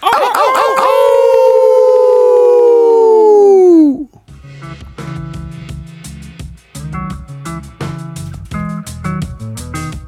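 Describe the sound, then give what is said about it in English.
A loud human howl holds a long wolf-like note for about four seconds, then slides down in pitch and cuts off, giving way to upbeat rhythmic music. “Give me a howl, everybody.”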